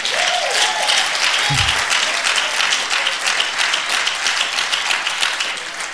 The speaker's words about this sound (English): I want the babies to cry. Glory to God. Come on, clap your hands for the babies crying out.